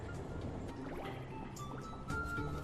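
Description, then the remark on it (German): Humpback whale calls drift in the background: rising and falling tonal moans and whistles, fairly faint, layered over a steady watery, bubbling wash with no voices. “Wow, im Hintergrund ist volle riesige, es sind volle riesige Buckelwale.”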